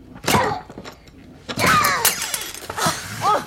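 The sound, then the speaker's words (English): A clothes iron is struck hard against a knob three times to knock it loose, each blow a loud, ringing clank with scraping rattles, spaced roughly a second apart, with strained vocal effort mixed in. “I found a clothes iron in here. I'm trying to knock the knob loose.”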